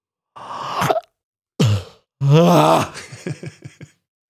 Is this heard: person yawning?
yes